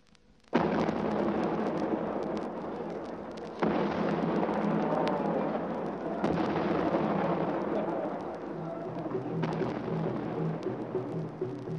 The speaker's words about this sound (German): Unter dem Donner von 101 Salutschüssen geht am 27. April in Lomé die Trikolore Frankreichs nieder.